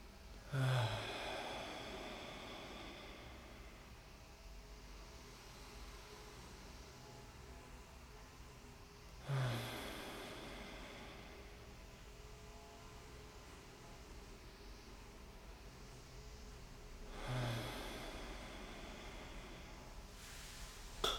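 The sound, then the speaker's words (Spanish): Three deep, slow breaths, in through the nose and out through the mouth, spaced about eight seconds apart, each a soft breathy rush that swells and fades, over a quiet, steady background hiss with no talking. “Tomando tres respiraciones profundas para limpiar la respiración. Inhalando por nariz, exhalando por boca.”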